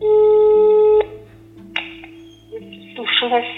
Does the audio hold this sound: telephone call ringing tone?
yes